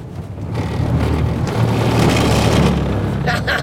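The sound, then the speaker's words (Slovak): A car brakes hard into a curve, with loud, steady engine drone and road rumble throughout, the engine tone shifting partway through and a brief tire hiss near the end. “teraz ideme silno brzdiť do zákruty.”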